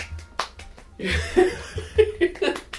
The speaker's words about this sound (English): Are you clapping like an Animal Crossing character? I love when they clap.